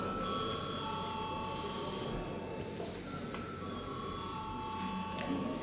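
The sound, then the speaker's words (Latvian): A parliamentary voting bell rings steadily and continuously for several seconds before deputies vote on a bill at its first reading, a bright sustained electric tone over a low murmur of room noise and faint voices. “Lūdzu zvanu.”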